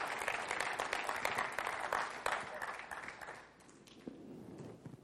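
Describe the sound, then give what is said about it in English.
An audience breaks into applause, dense overlapping clapping that holds steady for a few seconds, then thins and fades as scattered claps trail off. “We ought to clap on that today.”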